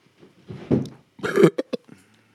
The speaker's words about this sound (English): That was a Taco Bell burp. there was no substance to it.